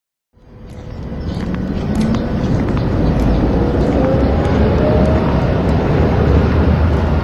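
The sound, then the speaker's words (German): Steady rumble of city traffic fills the street on a walk from Friedrichstraße station to the government quarter, in the former East Germany: a dense low wash of passing vehicles with a faint engine whine and occasional clicks, fading in quickly and holding constant with no voices. “Wir machen einen Stadtspaziergang vom Bahnhof Friedrichstraße zum Regierungsviertel, befinden uns also auf dem Boden der ehemaligen DDR.”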